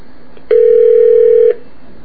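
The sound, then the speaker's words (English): A single steady telephone tone as a call to VoiceStream T-Mobile Customer Care connects. It rings out loud and clear for about a second, then stops. No voices, just a faint background hiss around it. “Please hold while we connect your call.”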